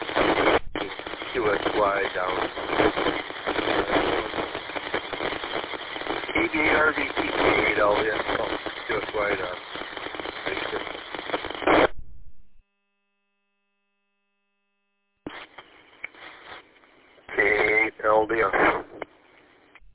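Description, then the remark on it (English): Crackling radio static over a narrow, tinny transmission with a garbled voice buried in the hiss. It cuts out into silence, then returns fainter with a louder burst of noisy chatter. “You're quite a bit of bacon frying on this one.”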